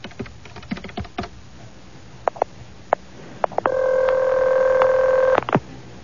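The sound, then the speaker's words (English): A flurry of plastic key clicks gives way to a few short telephone keypad beeps as a man dials to call someone, then a steady electronic tone holds for almost two seconds, clear with no voices. “why don't we just give her a call?”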